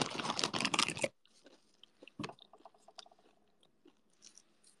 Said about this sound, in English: You're enjoying the eating ASMR? I'm glad. Should I chew obnoxiously?